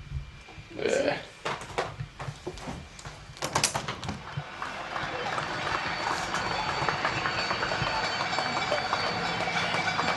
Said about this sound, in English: It's like eight. Like everybody's clapping outside. Maybe you want that? Oh yeah, that'd be great. Oh yeah. Sorry. Every day at eight, the whole city like claps for the health workers.